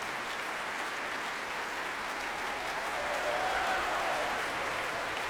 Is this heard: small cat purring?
no